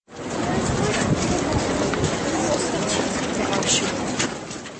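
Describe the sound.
A dense, steady shuffle of many feet from a crowd of over 10,000 people walking almost silently behind a former president's coffin in a funeral procession across Charles Bridge on an overcast day, fairly loud, with a low murmur of voices and a breezy wash blending into the footsteps.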